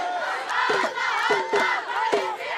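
A large crowd cheers and shouts in a steady, loud roar, with voices rising in repeated swelling bursts of chanting and whooping to welcome Morocco's football team as it arrives at its hotel.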